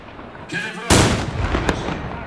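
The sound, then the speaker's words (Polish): A loud volley of rifle fire erupts at a historical battle reenactment, a sharp blast that rolls into a sustained rumble, followed moments later by a single additional crack over lingering outdoor noise. “Kiedy strzał ostatnio oddawali, liczył jeszcze ładunki, ale kiedy po linii słyszał fire, nie było już to takie rzeźkie jak wcześniej.”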